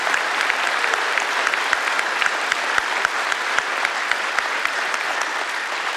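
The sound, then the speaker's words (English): A crowd applauds serving students steadily for several seconds, many hands clapping in a dense, even wash with sharp individual claps popping out now and then. No one speaks. “And can we give these students a round of applause again, all the other students serving?”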